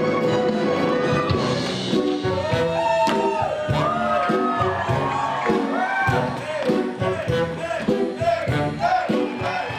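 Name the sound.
audience cheering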